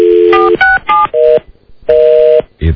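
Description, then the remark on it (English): A run of telephone keypad dialing tones, several short steady beeps of differing pitch pressed in an uneven rhythm, loud, with brief gaps between them. “Oh, come on. Get off the phone”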